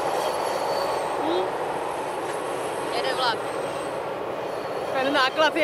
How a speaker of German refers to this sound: Dafür rattern aber links und rechts vom Fluss immer wieder lange Güterzüge vorbei.